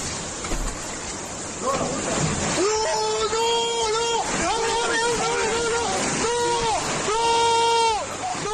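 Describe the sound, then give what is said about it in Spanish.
In Covisa, Toledo, floodwater knocks down a house wall and forces its way inside, a steady, loud roaring rush, while agitated voices shout repeatedly over the torrent in the second half. “y de donde hemos visto además vídeos impresionantes, realmente impactantes, como uno de Covisa, en Toledo, donde se ve como la fuerza del agua derriba el muro de una casa hasta entrar en el interior.”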